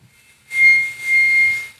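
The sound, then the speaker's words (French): A harmonica sounds one sustained, high reedy note with a breathy, airy edge. It swells twice over about a second before cutting off, with no voices. “C'est un harmonica.”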